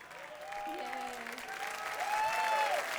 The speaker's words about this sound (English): Thank you for coming out so late. Thank you for standing and clapping and clapping and standing.